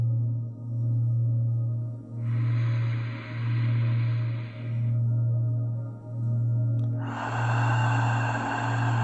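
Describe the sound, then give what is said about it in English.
A slow, drawn-out belly breath in through the nose, a hold, then a longer breathy exhale out through the mouth begins, soft over a steady pulsing low drone with no talking. “Now, we're going to deepen into long, slow belly breaths in through the nose. Hold. Out through the mouth.”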